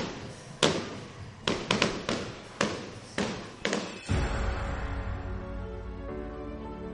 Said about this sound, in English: Right now, we'll send you away with the fireworks show.